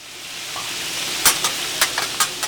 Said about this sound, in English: Tara Russell drops crab cakes and sausage onto a sizzling grill inside the kitchen of Tailgate Sports and Pizza, a local bar and dinner spot in Bar Harbor.